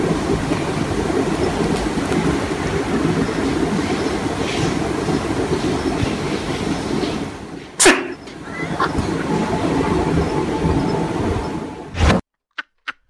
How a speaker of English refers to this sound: So there's going to be a little bit of background noise, and then you, my friend, are going to hear the majestic sound of an incredible owl sneezing.